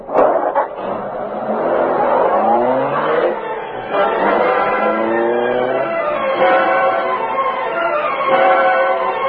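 A car engine revs and accelerates hard, its pitch climbing in repeated surges as it drives off, loud throughout with no talking.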